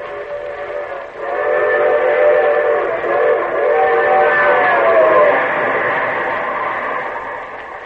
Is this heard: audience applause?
no